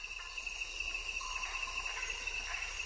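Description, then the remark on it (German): A dense, steady tropical chorus of frogs, insects and reptiles in a thicket, recorded with microphones set up about 10 meters away, with a constant high-pitched buzzing drone and scattered chirps and trills layered over it, no voices present. “Da hockte ich nun im Dickicht und zeichnete versonnen den tropischen Chor der Frösche, Insekten und Reptilien auf.”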